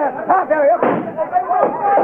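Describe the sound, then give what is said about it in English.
A couple of sharp gunshots, shots fired in a bank, crack out amid tense, raised voices, the bursts dull and muffled in tinny, narrow-band sound, with the first and loudest hitting near the middle. “Hey, sounds like shots in the bank.”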